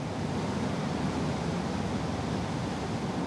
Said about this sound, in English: This city in general is the symbol of what man can do. And the bridges are part of that. So it really fits into the spirit of New York to have a man-made waterfall in its midst.